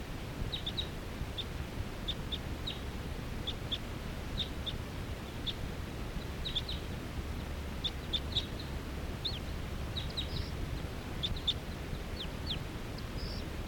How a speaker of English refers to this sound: Wild birds are coming in. This is 374. There are some wild birds here coming around. They're perching in a big tall tree here, and they look like females, all females. Stop. So recording the wild birds.